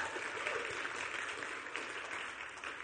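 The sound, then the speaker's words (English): An audience claps for a young man being introduced, a dense crackling wash of many hands that stays at an even level throughout, with no voices breaking through. “He's been, go ahead, clap for him.”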